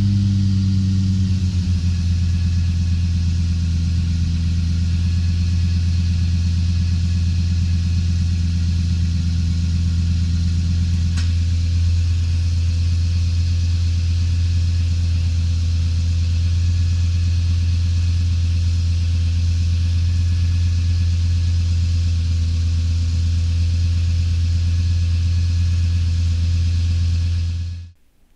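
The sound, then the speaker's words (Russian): A Lexus car engine, run by Toyota for three hours, runs steadily with a deep, loud low-frequency rumble and hum, idling evenly for the whole stretch with no voices, then cutting off abruptly at the end. “Toyota на 3 часа запустила двигатель Лексуса, чтобы наслаждаться, чтобы отзываться на подъем оборотов ритмом сердца и сбивчивым дыханием, чтобы слушать и восхищаться.”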